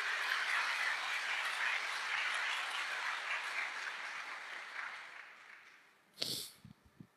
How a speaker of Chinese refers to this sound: 我们把最大掌声推给我们的上帝。